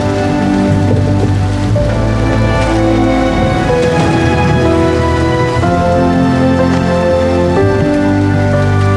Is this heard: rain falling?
yes